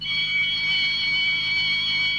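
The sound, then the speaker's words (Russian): A doorbell rings in one steady, unbroken electric tone for about two seconds, shrill and high-pitched, with no voices around it. “В этот момент кто-то позвонил.”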